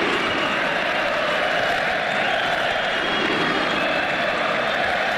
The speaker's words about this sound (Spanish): Mucha gente la que en el estadio de Cornellá gritó musulmán el que no vote en el partido que España empató contra Egipto, cuyo himno, por cierto, fue pitado. Y se gritó también eso de Pedro Sánchez, hijo de puta.